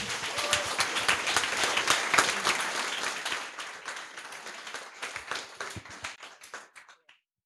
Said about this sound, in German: Viel Spaß. Applaus.